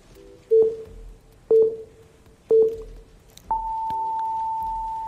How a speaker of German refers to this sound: Der Piepton zeigt 14.46 Uhr japanischer Zeit an.